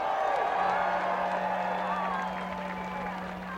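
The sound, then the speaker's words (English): A large crowd roars and cheers steadily, enthusiastically greeting a speaker, a dense wash of voices and applause with a few whoops rising out of it, holding loud for several seconds before easing slightly. “with her August vigil in front of President Bush's Crawford, Texas ranch, demanding a meeting with the president, was greeted enthusiastically by the crowd.”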